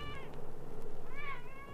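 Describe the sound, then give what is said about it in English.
A cat meows twice, a short high cry followed by a longer, wavering one, over a low steady rumble in the background; the cat is waiting for breakfast. “The cat sits and waits for someone to get up and give him breakfast.”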